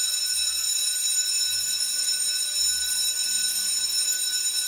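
A school bell rings without pause for the whole clip, signalling the start of classes, a steady, loud electric clang rich in high harmonics, with faint low rumbles underneath and no voices.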